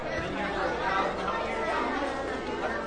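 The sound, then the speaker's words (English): A dense, steady wash of children's chatter at lunchtime at Keith Gushaheen Elementary School, as students line up to pick up hot lunch, many overlapping voices blending into a continuous hubbub with no single speaker standing out. “The Sounds of Lunchtime at Keith Gushaheen Elementary School.”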